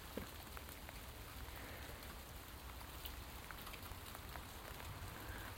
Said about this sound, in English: Hey ho, rain doesn't bother me, I'm covered in feathers.